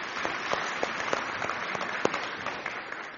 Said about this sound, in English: Just a huge thank you to our Kids Zone volunteers and worship team who have really put on a spectacular worship service this morning. Can we encourage them? Give them a round of applause for being here at 7 o'clock this morning.